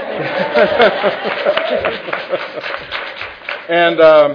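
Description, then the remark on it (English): A crowd breaks into dense, steady applause with many overlapping claps, mixed with scattered cheers and voices, ending with a loud sustained shout over the clapping. “It's okay to applaud.”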